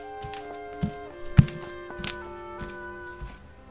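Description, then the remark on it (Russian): Brisk footsteps of a tall, older man walking quickly into a hall thud at a steady pace, about seven steps, the heaviest near the middle, over a soft sustained musical drone with no talking. “Через несколько минут в зал быстрыми шагами вошел высокий, уже не молодой мужчина.”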